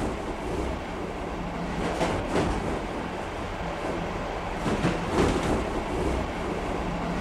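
A train rolls steadily along the rails, a continuous broad rumble with faint clacks and jolts now and then, fairly loud, with no voices.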